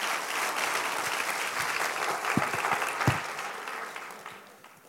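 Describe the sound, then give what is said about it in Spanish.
An audience bursts into sustained applause for the King of Kings and Lord of Lords, a dense, steady patter of many hands clapping with a few sharper claps standing out, then gradually fading toward the end. No one speaks. “Aplauda al Rey de Reyes y Señor de Señores.”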